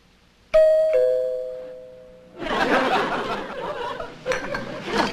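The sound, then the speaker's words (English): A two-tone front doorbell chime rings out clearly, a bright ding then a lower dong that rings and fades, followed by a burst of audience laughter and chatter. “There's someone at your front door, dear.”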